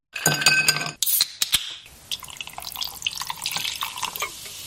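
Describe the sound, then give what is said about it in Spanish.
A sharp metallic crack and hiss of a can being opened, followed by a few clicks and then a steady soft fizzing of the drink's gas bubbles, crisp with no voices. “Este sonido, que es el de abrir una lata, y el gas, el de las burbujas, también es ASMR.”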